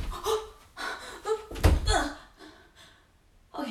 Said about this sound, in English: Why'd you slam me up against the door like that?